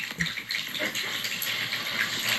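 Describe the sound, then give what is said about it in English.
A cat water fountain runs, steady water trickling and splashing continuously, a constant bright gushing, moderately loud throughout. “It's the water cat.”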